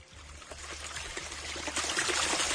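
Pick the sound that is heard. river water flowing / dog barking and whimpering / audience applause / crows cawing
river water flowing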